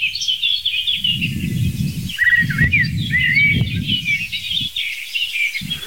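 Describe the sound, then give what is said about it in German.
A song thrush sings continuously, bright repeated phrases carrying over a steady low rumble of wind buffeting the microphone. “Nebenrolle, nee, zweite Hauptrolle ist die Singdrossel und dann verschiedene Akteure in den Nebenrollen. Und man hört es ein bisschen.”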